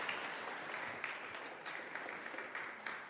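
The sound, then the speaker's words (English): An audience applauds a young volunteer: a dense, crackling wash of many hands clapping at an even, moderate loudness for about three seconds, with no voices rising above it. “Everyone give Ruth a big round of applause.”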